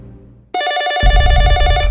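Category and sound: household object, telephone ringing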